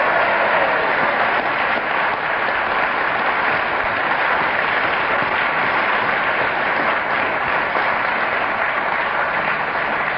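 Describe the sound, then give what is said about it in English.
Sustained applause from a sizeable audience, a dense, steady patter of clapping that stays loud and even for about ten seconds without anyone speaking. “Well, the audience applause rightly endorses your...”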